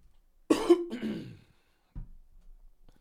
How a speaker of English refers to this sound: So much for not coughing on this episode.